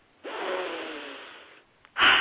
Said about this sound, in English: Shall we sniff?